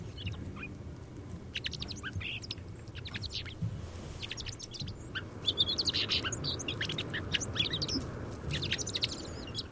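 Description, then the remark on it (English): A fox sparrow sings softly, a quiet song of sweet canary-like warbled phrases repeating continuously over a steady low rumble of background noise, with no voices. “Okay, here's a fox sparrow a couple of weeks ago.”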